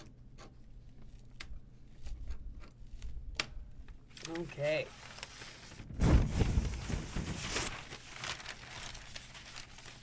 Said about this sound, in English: Sorry about the paper rattling, but we have to switch gears.